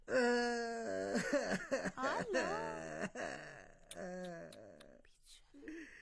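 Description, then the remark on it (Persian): A voice acts out exaggerated crying as a boot character (a single boot, the show's guest), with wavering, sobbing wails that rise and fall in pitch in several loud bursts, with short pauses and a quieter whimper at the end. “بوت عزیز گریه نکنه که خودت اینجا آمده که گپای تا بزنی، نکی گریه کنی.”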